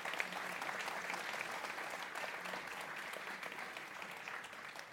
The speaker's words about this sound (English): So could I ask you to put your hands together and give a round of applause to a very good and very articulate panel.